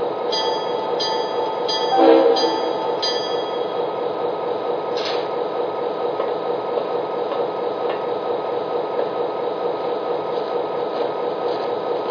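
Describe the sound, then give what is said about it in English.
A freight train rumbles steadily along the rails with a metallic squeal and a brief clatter early on, a continuous grinding drone as it slows to a stop at milepost 50 after hitting a bump, with no voices. “We better stop and check out the train.”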